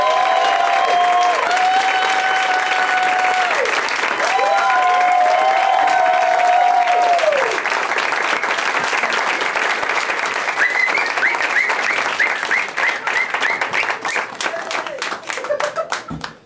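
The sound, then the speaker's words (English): A show audience applauds loudly and steadily for about sixteen seconds as guests Tess Morris, Greg Fitzsimmons and Graham Elwood are welcomed out, with several long, high whistles ringing out over the clapping in the first half before the applause tapers off. “I like it when you get the whistling out of the way early.”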